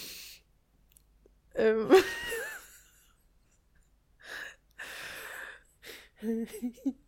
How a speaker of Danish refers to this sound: Jeg ved ikke lige, hvad der skete der. Jeg nøs meget pludseligt.